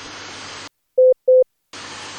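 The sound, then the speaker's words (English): Two short, evenly spaced Morse code (CW) beeps at a steady mid pitch sound loud and clear in a brief silence, framed by a steady rushing hiss before and after; Morse letters of a word being sent, each letter announced first. “Dus eerst alle gebruikte letters met aankondiging en dan een paar keer het woord.”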